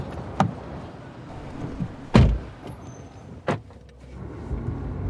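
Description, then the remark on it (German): A car is unlocked and its door thuds shut, three sharp clicks and knocks spaced a second or so apart, then a low engine rumble begins to rise near the end. No one speaks. “Ich erreiche mein Auto und halte kurz wieder inne.”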